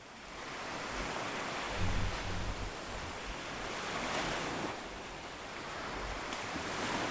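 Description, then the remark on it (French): Steady ocean surf washing in continuously, a broad rushing hiss that swells gently around the middle and eases again, with a faint low wind rumble and no voices. “Le corps se retrouve face à la mer, dans ses mouvements de vie, ses vagues qui changent à chaque instant.”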